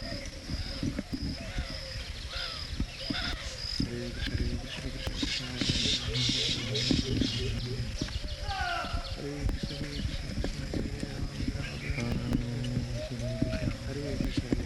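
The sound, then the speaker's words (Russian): A dense chorus of chirping baya weaver birds from a colony that builds hanging nests, busy and overlapping throughout, with voices and low background rumble underneath. “It's a colony of birds. Это колония птиц. Бабуи. They create a nest.”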